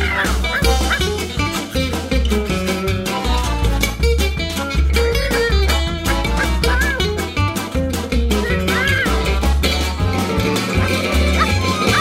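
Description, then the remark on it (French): A small dog yaps and barks in quick, high bursts, mixed into a busy musical backing with a steady bass line running throughout. “Maintenant qu'il n'y a plus aucun arbre dans la rue, où s'en va mon petit chien lever la papette le matin?”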